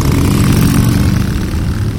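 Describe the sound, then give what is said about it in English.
A loud Harley-Davidson motorcycle engine roaring by rumbles with a deep, steady throbbing growl, easing off only slightly toward the end of the short burst. No voices. “The signature sound of Harley Davidsons roaring by inspires today's GeoQuiz.”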